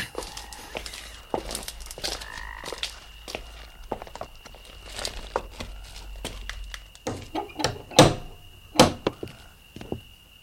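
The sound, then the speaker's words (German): Scattered soft thuds and shuffling steps, then a few louder, sharp raps near the end as someone knocks on a house door. Nobody speaks. “Naja, ich klopfe mal.”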